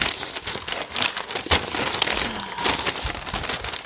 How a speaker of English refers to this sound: Always with the crinkle. I don't. Oh, wait, what's this? Wait. We got an extra piece of paper.